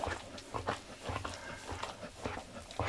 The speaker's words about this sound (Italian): Quando un cane rientra da una passeggiata sotto la pioggia o quando si annoia, è normale che si lecchi. Se dura poco, come in questo caso, è indice di uno stato di salute normale, mentre se diventa ossessivo